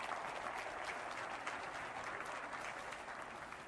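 An audience claps steadily throughout to applaud a commercial, a dense and even wash of many hands at moderate volume with no voices over it, holding constant for the full few seconds.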